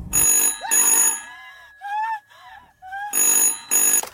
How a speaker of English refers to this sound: But then the moment was broken when the phone began to ring.